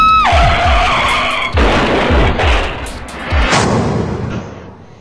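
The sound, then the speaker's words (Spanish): A car's tires screech in a sharp, loud skid that descends in pitch, followed by heavy rumbling thuds and crashing noise, as a driver being rammed by another car tries to brake on a road bordered by vacant lots but the brakes fail. “La audacia golpeó su cerebro, y al sentir que llegaba un cuarto impacto, intentó frenar para que el otro auto se dirija a los terrenos baldíos que cercaban la vía.”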